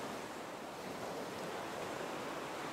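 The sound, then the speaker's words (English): A steady, hissing wash of ocean surf on the shore, broad and unbroken at an even level throughout, with no voices. “And with the ropes in your hand, face the ocean again. Hold the rope and notice yourself laying down in the sand.”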